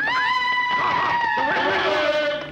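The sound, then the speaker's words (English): A person screams loudly and continuously for a couple of seconds, a high sustained cry that wavers and slowly drops in pitch before cutting off. “Do what I say. Scream. Go ahead.”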